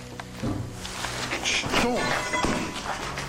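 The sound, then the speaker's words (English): A metal object clatters and knocks around in a few quick, uneven hits, with a heavier bang among them, set against a low rumbling background and faint voices. “At this same time, something metal clatters around and there's another bang.”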